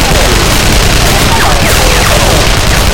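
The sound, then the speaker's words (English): Heavy, sustained automatic rifle gunfire from gunmen rattles continuously and loudly throughout among marble statues and shelves, a dense barrage of rapid shots blending into a harsh, crackling wall of noise with occasional sharper bursts. “Anya kept moving, gunfire blazing all around her.”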